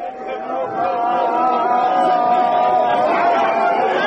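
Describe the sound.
A dense crowd shouts, wails and cries out in anger at the night burial ceremony of Ahmad Baldi, a 20-year-old from Ahvaz, with a steady, loud mass of overlapping voices and long, drawn-out cries sustained throughout the few seconds.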